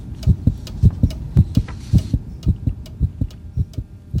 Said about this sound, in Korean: 레베카는 자신의 심장소리가 시계의 똑딱소리보다 더 크게 울리는 듯했다